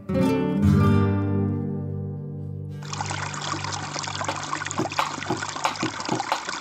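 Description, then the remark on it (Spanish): A sustained, ringing musical tone fades out, then river water takes over, flowing and splashing steadily with a busy, rushing texture and no voices. “Hoy el río suena, hoy el río canta.”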